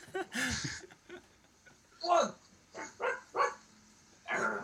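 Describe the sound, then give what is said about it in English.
A small dog lets out several short, sharp barks in quick succession, with people's voices murmuring around them. “Oh. He's barking.”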